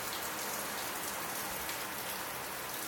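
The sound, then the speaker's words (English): Heavy rain pours down steadily during a storm late in the evening, a dense, continuous hiss of drops striking surfaces, loud and unbroken for the whole stretch with no voices. “It's raining like crazy.”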